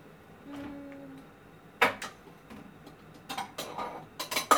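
Dishes and chopsticks clink and tap in a series of sharp knocks while salad is served, bunching together toward the end, with a faint low hum underneath and no one speaking.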